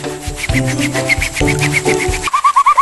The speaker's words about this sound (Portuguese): São grãos de quartzo, o mesmo material que fabrica o vidro. É bonito de ver e curioso de ouvir. Quando a gente esfrega a areia... olha, começa a produzir um som. Parece uma cuíca. O pessoal diz aqui que é a areia que canta.